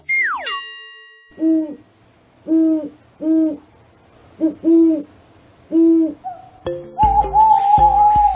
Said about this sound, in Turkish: Bildiniz mi? Bu canlının adı baykuş. Baykuşlar geceleri bile etrafını mükemmel görüyor.